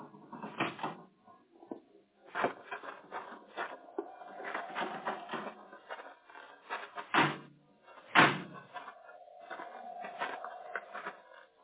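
door being opened

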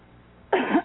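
cough

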